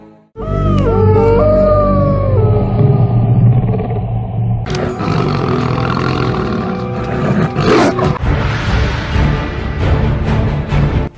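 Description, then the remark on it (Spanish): A loud, drawn-out monstrous howl of a werewolf at the moon, with wavering, sliding tones, opens the sequence, then gives way to a dense, growling roar and rumbling noise that continues to the end. No one speaks. “un imprescindible de Halloween que no puede faltar. Sí, ese que aúlla la luna.”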